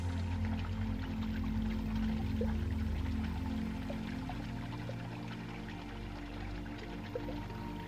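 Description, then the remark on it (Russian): A continuous wash of waves on a seashore with a light breeze, a steady rushing roar of water that softens slightly toward the end, with no voices over it. “Ваш сон переносит вас на берег моря.”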